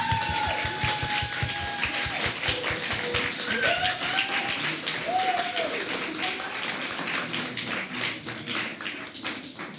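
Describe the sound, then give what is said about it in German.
An audience breaks into sustained applause at an art exhibition speech, congratulating an artist duo on two projects and two exhibitions in one year, a dense, steady patter of many hands clapping for about ten seconds, with faint voices and a few whoops rising through the noise. “Ein Applaus an dieser Stelle.”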